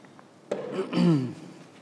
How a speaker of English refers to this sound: Let's take a little sip of water.